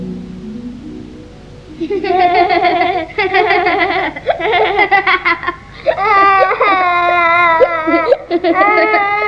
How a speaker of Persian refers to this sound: ده نگاه کن داره گریه میکنه.